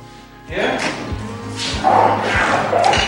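A back door is opened with a sudden thump and rattle, followed by a few muffled thuds and bumps as it swings open, close by and moderately loud.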